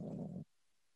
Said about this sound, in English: I hope you hear me. I have a snoring dog beside me.